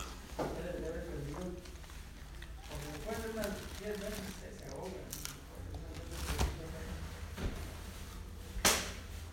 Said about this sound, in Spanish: No, ya crujió la silla.